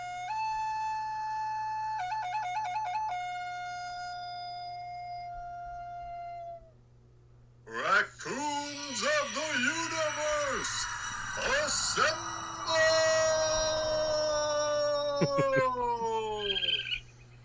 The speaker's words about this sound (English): I like your idea of this raccoon flute or ocarina. So hold on just a second. Is he about to break out some music?